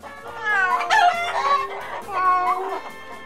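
Chickens cluck while a rooster lets out loud, drawn-out crows in two strong bursts, with no talking over them.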